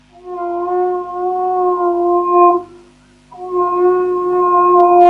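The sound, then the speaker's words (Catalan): A horn is blown in two long, steady blasts at a mid pitch, each sustained for a couple of seconds with a brief pause between them. The tone is loud and reedy, with no talking. “Els missatges senten el corn i se posen a estirar.”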